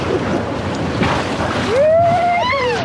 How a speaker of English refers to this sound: In late August, whitewater rafters splash gleefully over boulders in the upper Klamath River. It's an awesome adventure, wet and seemingly wild.